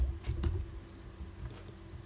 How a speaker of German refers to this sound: Ich höre dich klicken. Ja, ich habe die Leseprobe angeklickt.